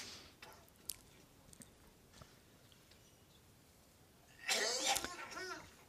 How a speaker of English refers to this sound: You're coughing a lot these days.